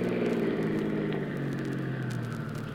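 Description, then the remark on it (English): A car engine hums steadily from inside the vehicle while driving, a low continuous rumble with a slight drifting pitch and constant loudness, no voices. “Bad we took this car. It hasn't got much guts.”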